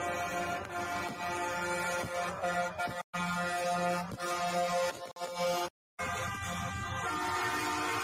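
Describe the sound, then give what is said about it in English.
Loud, sustained truck-mounted train horns blare in long chord-like blasts, repeating with brief gaps amid a noisy outdoor street crowd. “I like the trucks with the train horns on them.”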